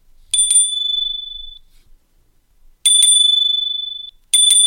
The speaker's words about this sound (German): Aber jetzt sage ich gleich, der Wahoo klingelt eigentlich genauso laut wie der Spur Cycle Bell. Also, das finde ich gut.